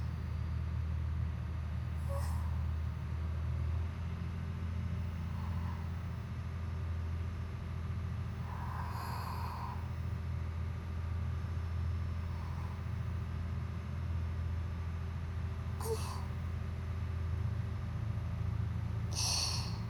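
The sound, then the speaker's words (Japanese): A steady, deep diesel engine drone fills the cabin of a dolphin-watching boat, with a constant low rumble and throb, plus a few brief, faint breathy hisses or snorts over the engine. “船室内でもこれほど豊かに響いてくるディーゼルエンジンの音も、スイカには大変に心地よいものと響きます。”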